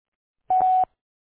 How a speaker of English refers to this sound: Sorry I can't come to the phone right now and leave your name and number at the tone, and I'll gladly return your call.